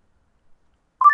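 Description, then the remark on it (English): A short electronic power-on beep from a Bose SoundLink Mini Bluetooth speaker being turned on, two quick tones stepping slightly upward in pitch, sounding alone after a moment of silence at the very end. “The Bose SoundLink Mini just has a little beep,”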